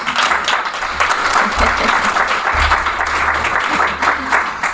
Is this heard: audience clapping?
yes